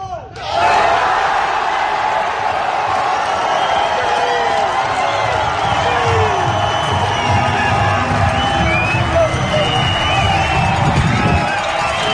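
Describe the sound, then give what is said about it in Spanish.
A large crowd cheers and shouts in celebration of Sergio García's first win on the LIV circuit at the Valderrama golf course, with shouts of "sí". The cheering is loud and sustained for the whole stretch, with overlapping yells and whoops rising from a dense wall of voices. “De fondo se lo escuchaba gritando el sí y el sí.”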